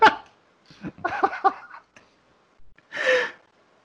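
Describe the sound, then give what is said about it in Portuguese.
A small dog makes a few short, breathy, pig-like snorting and whimpering noises, a quick cluster of them followed by a pause and one longer huff, with no talking. “O Deus me livre, não é porco, não, é um cachorrinho que tá, não tá parecido.”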